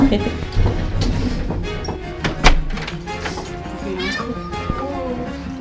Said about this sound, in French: Vous avez un chat.